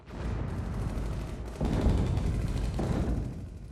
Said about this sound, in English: One day, the sound of cannons came from a country far down south.